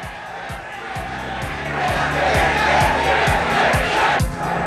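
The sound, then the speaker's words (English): A loud street crowd cheers and chants in a steady pulsing rhythm, with heavy beats thumping roughly twice a second beneath the roar of many voices. “In the studio, Richards hears the chanting and his expression brightens a touch.”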